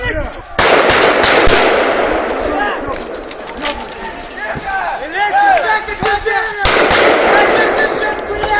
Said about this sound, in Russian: Жертв этой пальбы, к счастью, нет. Стреляли в воздух.